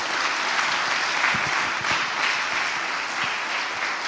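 A crowd claps steadily, a dense wash of many hands at an even, fairly loud level throughout, with no voices breaking through.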